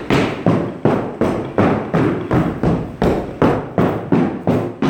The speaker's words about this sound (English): I heard him start stomping back and forth. I'm literally stomping back and forth on the floor upstairs.